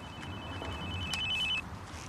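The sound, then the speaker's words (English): A cell phone rings with a high electronic ringtone, a steady tone breaking into a rapid warbling trill before cutting off, over a low background rumble, as a man walking along a leafy street towards his house at night answers it. “That night, walking along the leafy street towards his house, Charles answers his cell phone.”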